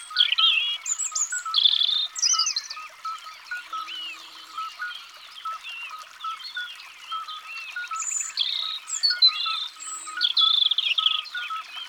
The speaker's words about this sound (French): Un rouge-gorge s'est approché. On le reconnaît tout de suite à sa petite voix et à son chant très musical.